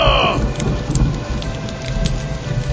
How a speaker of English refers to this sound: Really? Now you're going to rain? Alright, let's do this anyway.